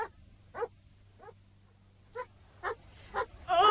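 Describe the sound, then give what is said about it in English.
An excited dog named Scruff jumps up at someone, letting out a series of short, sharp yips, about six in irregular succession, growing louder toward the end over a faint low hum. “All right, good dog.”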